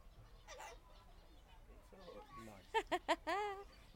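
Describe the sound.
A ground bird calls: three short, sharp clucks in quick succession, then a longer wavering squawk, with faint background voices and outdoor murmur earlier.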